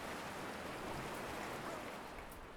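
Steady, full-bodied rush of ocean surf washing in continuously, a dense hiss and roar with no distinct breaks between waves, even in loudness, with no voices.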